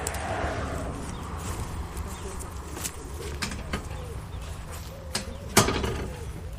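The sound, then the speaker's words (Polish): Soft cooing of a wood pigeon drifts through a steady low outdoor rumble, broken by a few sharp clicks and taps. “Coś tu nam pohukuje. Gołąb grzywacz.”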